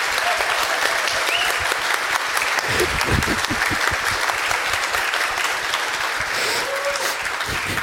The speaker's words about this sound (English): let's give also at this moment these 2 guys and all the people involved in this a huge round of applause, because they made it happen that we can do it this year.